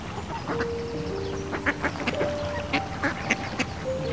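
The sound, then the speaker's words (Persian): A duck quacks repeatedly in short, nasal bursts, moderately loud, with a steady rhythm over a faint outdoor background. No one speaks. “یک شب خانم مرغابی مهمان چاله شد.”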